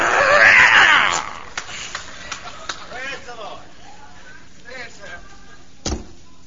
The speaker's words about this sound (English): And I yank and yank and yank. And sometimes Sunday's been in that head so long that the nails are rusty. So you can hear some screeching.